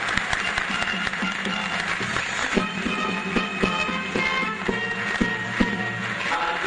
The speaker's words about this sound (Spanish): Estamos recibiendo con un fuerte aplauso a las banderas de ceremonia, Escuela Primaria número 102, 17 de agosto.